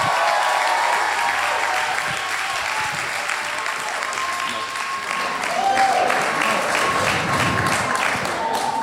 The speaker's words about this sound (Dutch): Maar, en ik ben groot fan van hondjes, dus mag ik een heel groot applaus. Esther Gerritsen, dames en heren.